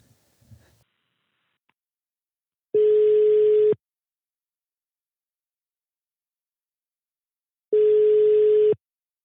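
A telephone ringback tone sounds twice while a phone call is being placed, each steady electronic burst about a second long, separated by a few seconds of silence. Clear, with no voices.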